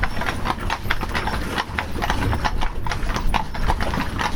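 Horse hooves clip-clop in a steady, brisk rhythm, each strike crisp, continuing throughout over a low background rumble.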